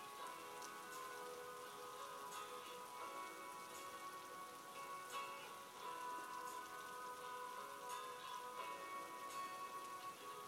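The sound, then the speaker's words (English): Steady, heavy driving rain pours continuously onto a hard surface, a dense patter of drops with no pauses, while faint sustained tones hum underneath. No one speaks. “She chased the bus, but alas in vain, now stood disappointed in driving rain.”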